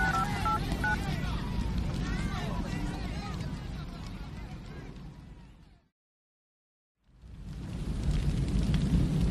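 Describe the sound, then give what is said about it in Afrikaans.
A phone number is dialed to call Vistok to check whether a woman is at home: a few short touch-tone beeps at the very start, half-buried in loud, steady rushing noise that cuts to silence for a moment before returning. “Ek bel gou vir Vistok om te gaan kyk of sy tuis is.”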